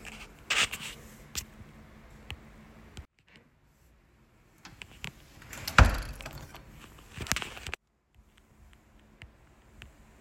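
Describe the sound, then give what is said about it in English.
A door is pushed shut with a single solid thud partway through, surrounded by small clicks and rattles of the handle and latch, then quiet; a student closing the door at a meeting with a professor. “Did you not want the door closed?”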